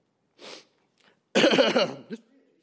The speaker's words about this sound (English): Man, I knew I was going to cough today. Dang it. Excuse me.